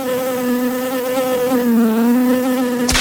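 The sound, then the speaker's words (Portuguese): A steady high-pitched mosquito whine drones continuously with a slight wavering pitch, loud and alone, ending with a brief click. “Eles se referiam à doença como veneno da água porque sabiam que as pessoas que adoeciam geralmente viviam em locais com água parada e cheias de mosquitos se reproduzindo ao redor.”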